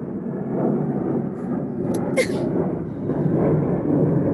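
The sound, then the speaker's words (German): A steady, broad low roar of an airplane flying over a terrace near an airport fills the whole clip, swelling slightly and then holding, with a few brief higher chirps or clicks cutting through near the middle. “Jetzt fliegt gleich ein Flugzeug über meine Terrasse, weil wir wohnen ja sehr nahe am Flughafen.”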